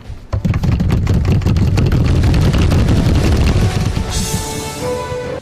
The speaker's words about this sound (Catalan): Aquesta secció és... Redoble, si us plau!